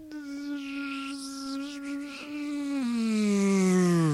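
A loud, continuous buzzing of bees, holding a steady droning pitch before sliding lower toward the end, with no talking.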